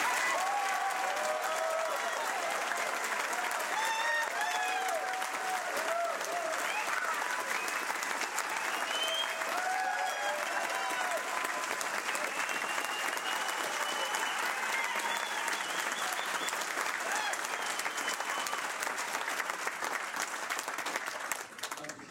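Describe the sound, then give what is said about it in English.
Sustained audience applause for Lou Rockwell of the Ludwig von Mises Institute at a Ron Paul event, a dense steady wash of clapping that holds at full strength for over twenty seconds, with faint cheers and voices rising through it before it tapers at the very end. “Ladies and gentlemen, please wear a warm round of applause for Lou Rockwell.”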